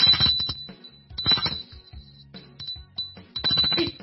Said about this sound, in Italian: Suona il campanello.